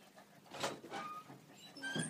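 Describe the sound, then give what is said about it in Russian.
A door being opened and shut, heard as a few soft bumps and scraping rustles spread over a couple of seconds, fairly quiet, with no talking. “Быстро заходите, гуляйте много, красавицы. Дверь закрыть. Что дверь не закрывает?”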